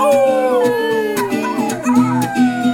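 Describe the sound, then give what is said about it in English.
Several voices imitate a dog's howl in a sing-along about being little puppies, drawn-out wavering tones sliding downward and rising again, loud, lasting nearly three seconds with overlapping pitches. “And howl.”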